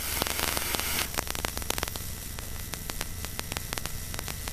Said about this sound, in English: I'm getting some interference.